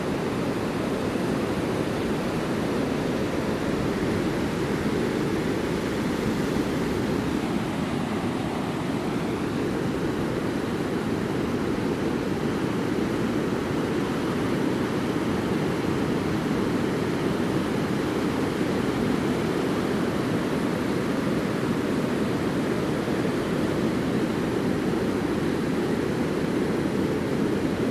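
nature, ocean waves

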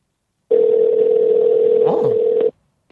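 signal or alarm, outgoing phone call ringing

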